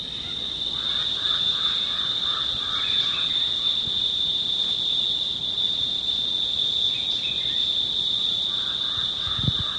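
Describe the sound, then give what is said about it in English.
A cicada drones in a steady, high, unbroken tone from start to finish, while softer, lower chirping calls come and go in short bursts in the background. “There's Arnie's in the background now, over the Javelin Crow and Cicada.”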